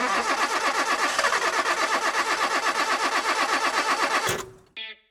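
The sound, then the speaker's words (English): A car engine cranks and runs loudly with a steady, rapid chugging rhythm for about four seconds, then cuts off abruptly, followed by a brief tonal hum. “You want your car to last longer, run smoother, perform better. I'm talking about your engine.”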